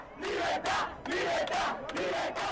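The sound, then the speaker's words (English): A large crowd of Cuban protesters in Havana chants anti-government slogans, including liberty and enough, in loud, rhythmic bursts, voices rising together in repeated shouted phrases with brief pauses between them. “Demonstrators shouted liberty and enough among anti-government slogans in Havana and other towns and cities.”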